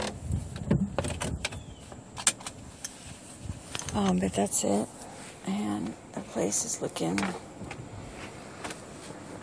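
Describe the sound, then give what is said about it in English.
A steady low engine rumble idles beneath a man talking as the car sits in a parking spot, with a few brief clicks and mechanical sounds from inside the car. “Turn off the engine so I don't pollute.”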